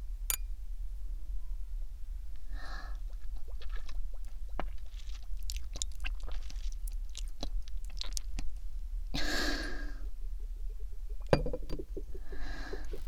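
Glasses clink together in a toast, with several sharp taps of glass, followed by soft sipping and swallowing sounds. No one speaks.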